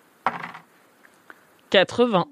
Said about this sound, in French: Vas-y, fais un jet, alors lance les dés.